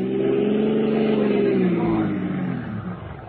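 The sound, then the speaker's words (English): A car engine revs hard, its pitch climbing and then sliding downward as the car swerves to run another car into the curb, a loud, continuous roar that eases off slightly toward the end. “Now, run his car into the curb.”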